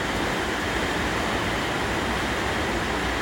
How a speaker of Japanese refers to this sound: ちょっと雨がうるさくて、もし聞いてくれてる人がいたらすいません。